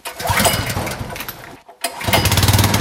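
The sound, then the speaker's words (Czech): An external portable fire pump engine beside a Tatra 815 fire truck at a fire station is cranked during a flood-readiness check. It catches almost on the first try, sputters briefly, then settles into a steady, loud running rumble, with no voices. “První čerpadlo, které tady máme, tak je galopka externí a jak jste slyšeli, chytla téměř na poprvé.”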